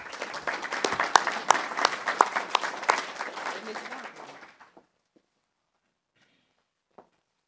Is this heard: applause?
yes